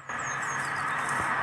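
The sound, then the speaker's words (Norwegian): A steady, fairly loud rush of traffic noise, like a car going by outside, with faint high bird chirps over the top and no talking. “Å, der kommer bil.”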